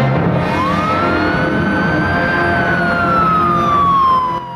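vehicle, police car sirens approaching

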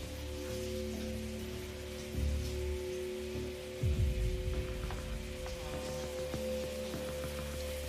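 household object, shower water running

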